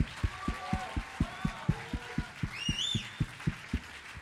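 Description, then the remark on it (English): An audience claps hands together in a steady, quick beat, about four claps per second, with voices murmuring and a few high whooping shouts rising briefly over the rhythm. “Clap your hands and shout a little bit.”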